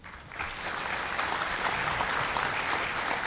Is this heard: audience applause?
yes